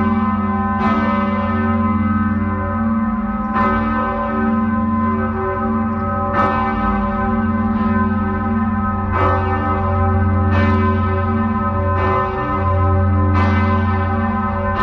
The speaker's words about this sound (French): Comme l'immense majorité des cloches d'église, elle est en bronze, c'est-à-dire un mélange de cuivre et d'étain, un alliage qui est donc savamment dosé pour obtenir la meilleure résonance possible.